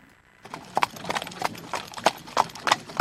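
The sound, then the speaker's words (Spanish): Horses' hooves clip-clop in a steady, brisk rhythm as they pull a carriage carrying young ladies and their driver through the city, the sharp hoof strikes clear over a soft rumbling background. “Estamos escuchando unos caballos que tiran un carro.”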